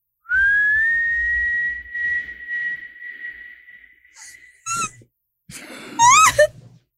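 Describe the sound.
A person whistles a long, steady sustained note, then a few short rising and wavering whistles imitating an eerie ghostly whistle, with breathy sounds between.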